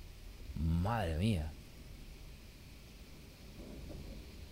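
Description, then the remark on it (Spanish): A steady, dense hiss of heavy rain pours down throughout, with a low rumbling undertone, while a voice briefly speaks or calls out near the start. “Mira cómo llueve, ¿eh?”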